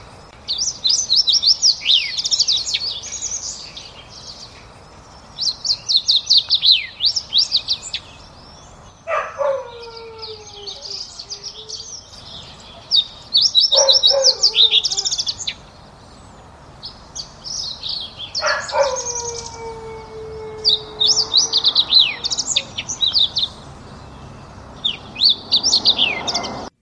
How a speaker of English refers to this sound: So again, that was the fox sparrow, and fox sparrows, to me, they have those sliding whistles that are in there, and most similar to a song sparrow. Both of these are going to be largish brown sparrow-like birds.